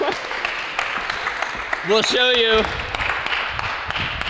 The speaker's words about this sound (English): All right, a big round of applause.